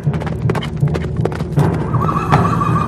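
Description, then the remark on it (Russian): Horse hooves gallop in a quick, uneven pounding rhythm as a horse carries a voivode through copses, and a high, drawn-out whinny rises over the hoofbeats in the second half. “конь нес воеводу через перелески”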